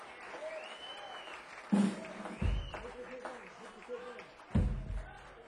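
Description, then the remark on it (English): Three deep kick drum thumps land a second or two apart on a stage, each leaving a low, ringing boom that hangs briefly, with murmuring voices and faint crowd noise underneath. “You hear that ring and the kick drum? It's ringing all over the stage up here.”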